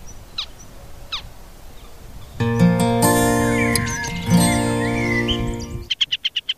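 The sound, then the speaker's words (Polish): A male bird of prey, carrying a small prey animal clutched in its talons near its nest, calls loudly overhead in a sustained, harsh, strained cry, ending with a quick series of short repeated notes. A couple of faint brief chirps come first. No voices. “Słychać ptaka w ogóle.”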